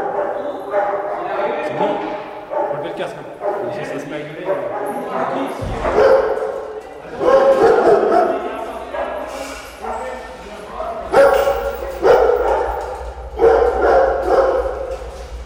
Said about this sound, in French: Puis même, vous voyez, déjà, ça résonne énormément, alors que vous avez tous les chiens qui aboient parce qu'ils attendent la gamelle et à l'intérieur, voilà. Donc là, on fait comme ça, on ouvre et les chiens, ils viennent manger.